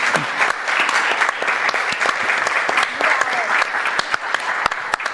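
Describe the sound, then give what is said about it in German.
A crowd claps steadily for several seconds during a question session, applauding a volunteer microphone helper, a dense, even patter of many hands with a few sharper individual claps standing out, fairly loud throughout. “Vielleicht einen Applaus für unseren ganz charmanten Mikrofonengel, der da noch.”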